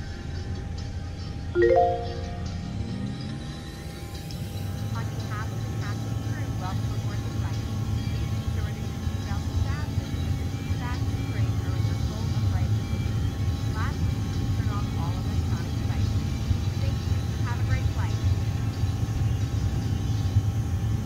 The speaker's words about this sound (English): On runway, 08. On runway, 08. All right, so eight. Let's go ahead and take off. I'd say we're ready.